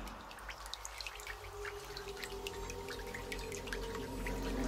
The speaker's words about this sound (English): He listened, at first hearing only the rain.